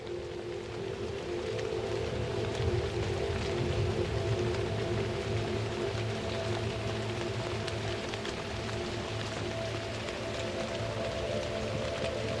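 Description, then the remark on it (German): Steady rain hisses continuously, drops running down large leaves, beneath a low, sustained droning hum, the whole soundscape even and unbroken with no voices present. “Die leuchtenden Regentropfen gleiten daran herab.”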